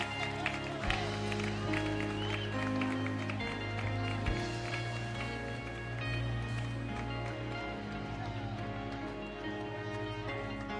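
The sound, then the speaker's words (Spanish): A church audience applauds the Lord, clapping steadily and continuously, a dense wash of many hands over music that runs throughout, with voices faintly mixed in and the level holding even for about ten seconds. “Vamos a aplaudir al Señor.”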